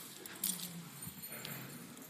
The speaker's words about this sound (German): Ihr Lieben, tut mir mal bitte einen Gefallen. Wer einen Schlüssel dabei hat, holt ihn mal bitte kurz raus. Wahrscheinlich haben die meisten Schlüssel dabei, gehe ich mal von aus.